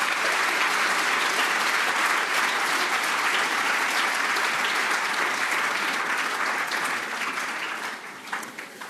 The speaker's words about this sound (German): Der Applaus hat schon gezeigt